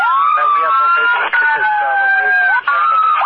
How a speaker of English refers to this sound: Denver TAC 37, I could not hear you over your sirens.